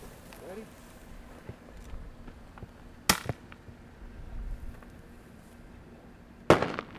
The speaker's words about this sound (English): We just have a simple cracker shell coming out of the shotgun. It's essentially a big firecracker.